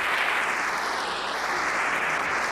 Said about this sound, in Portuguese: Então, continuem ouvindo depois dos aplausos. E vamos aplaudir Zig, bem forte.